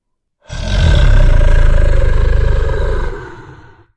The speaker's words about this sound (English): That evening, he flew to the highest peak and roared mightily, sending a burst of colorful light through the clouds.